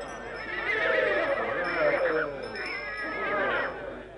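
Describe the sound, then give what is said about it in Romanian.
A tall, slender black horse with an arched neck neighs and whinnies loudly at a horse fair in Döbrug, its wavering call rising and falling across several seconds, with faint clip-clop and busy background murmur. “Cei mai mulți oameni s-au strâns în jurul unui cal, înalt, subțire, negru, cu gâtul arcuit.”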